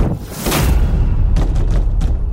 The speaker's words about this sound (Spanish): Con mirada impasible y una ligera sonrisa, simplemente hizo un gesto y la puerta se cerró en las narices del cura, dejándolo afuera.